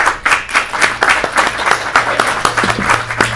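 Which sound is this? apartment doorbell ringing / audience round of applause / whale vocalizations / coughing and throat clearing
audience round of applause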